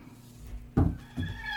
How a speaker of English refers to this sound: Oh, shit. Oh, shit. Okay. You're hearing some chickens in this motherfucker.